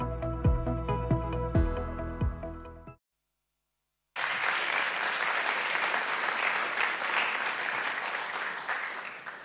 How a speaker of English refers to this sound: Thank you for that warm welcome. You're clapping and I haven't even said anything.